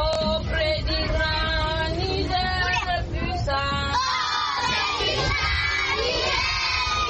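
A large group of schoolchildren shout and chant loudly together, many voices overlapping in rising and falling unison, reciting their lessons aloud at the school at the entrance of the town of Bosso, Niger, a few kilometres from the Nigerian border.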